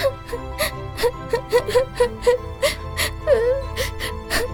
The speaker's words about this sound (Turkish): Ve kuzu hönkür hönkür ağlamaya başladı.